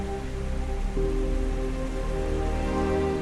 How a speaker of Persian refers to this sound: اینها آبشارهای ایگواسو هستند.